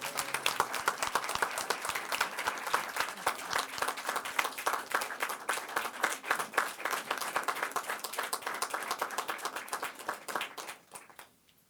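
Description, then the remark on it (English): A crowd applauds steadily, dense overlapping claps sustained for about ten seconds before thinning out and fading away at the end. “Let's give I a round of applause.”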